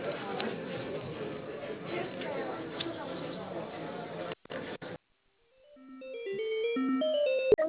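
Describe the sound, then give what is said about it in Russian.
Over a phone line, a stretch of busy background noise cuts off with a few clicks and a short silence, then a melodic ringing tone plays steadily while a call to Otsek café is transferred to its branch on Dzerzhinskogo. “вас соединить с Дзержинского? Да, да. Одну минутку, оставайтесь на линии.”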